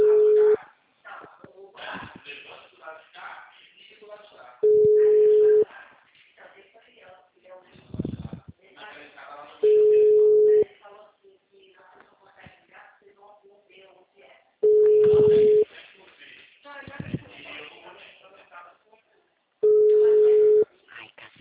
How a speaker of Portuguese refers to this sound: Gente, eu vou fazer uma ligação, tá? Rapidinho, por favor. Vamos ver se vou conseguir, né?